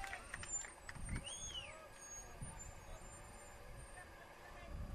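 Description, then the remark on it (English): A bus rumbles by during a baseball game, a steady low engine drone with a brief high squeal of brakes partway through, over faint background chatter. “We're in the shade now with that bus coming by.”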